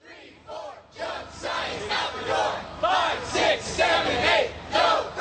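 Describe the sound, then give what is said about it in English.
A crowd of student protesters, over 30 former and current State University of New York students, chants in unison on a New York street at a rally organized by New York Public Interest Group, loud voices rising and falling in a steady rhythmic cadence, shouting "Junk science out the door" and "No fracking in our state." “Today's rally by over 30 former and current State University of New York students was organized by New York Public Interest Group”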